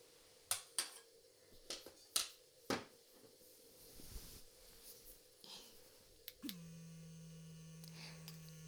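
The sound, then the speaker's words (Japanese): A few sharp clicks and taps, then an electric toothbrush switches on with a steady, even buzz that continues until the end, used as a finishing step when brushing teeth. “電動歯ブラシさんです。”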